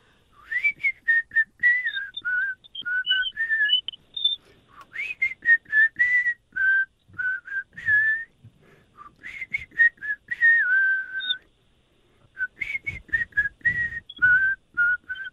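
Someone whistles a melody, with quick, bouncy note runs split into three phrases by short pauses, clear and fairly loud with no talking over it.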